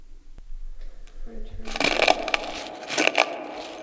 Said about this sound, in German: Haben Sie das auch gehört? Doch, doch, da knirscht etwas. An der Tür. Ich seh mal nach.